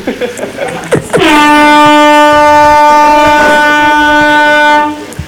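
A loud, sustained air horn blast lasts nearly four seconds, a steady brassy tone rich in harmonics that starts abruptly and then cuts off, after a second of indistinct background noise.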